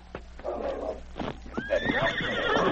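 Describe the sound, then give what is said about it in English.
A horse gives a loud, shrill whinny that rises and wavers, mixed with the rapid clatter of hooves as two horsemen gallop off from their hiding place. No one speaks. “The two horsemen were already gone by the time King reached their hiding place.”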